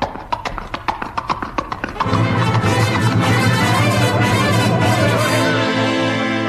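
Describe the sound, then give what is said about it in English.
Quick, evenly spaced clip-clop of galloping hoofbeats for about two seconds, crisp, before a loud, dense wash of music swells in and buries them. “No, that ain't a horse, no.”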